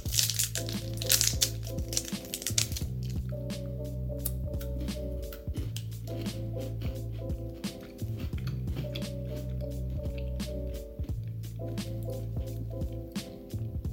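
Repeated crunching of a bitter matcha Kit Kat chocolate wafer bar being chewed, with crisp irregular crackles over a steady low tonal background, and no talking.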